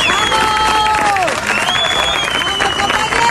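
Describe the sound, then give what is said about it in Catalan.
Prison officers at the prison of La Roca del Vallès applaud steadily and loudly as colleagues leave after a 24-hour blockade, dense clapping filling the whole stretch, with voices calling out and chattering over it and a high whistle-like tone sliding briefly. “Ho van fer com sentim entre els aplaudiments dels companys i amb la vista posada a no aturar-se fins que el Departament de Justícia respongui les seves demandes,”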